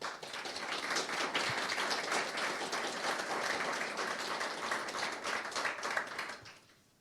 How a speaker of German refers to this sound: An der Stelle vielleicht bitte nochmal einen großen Applaus für unsere großartige Designerin, die es leider nicht hergeschafft hat.